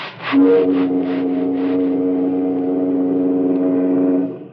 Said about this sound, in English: Oh, just a lot of steam blowing through a whistle. No, you're wrong. It's America.